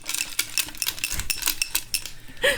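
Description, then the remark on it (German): Small metal charms clinking together on golden carabiners hanging from a cup, along with a white pompom, a dreamcatcher, a rainbow and initials: a quick irregular jangle of bright, light clicks and chimes repeating throughout, moderately loud with no talking. “Und dann ist da ein weißer Puschel an goldenen Karabinern dran.”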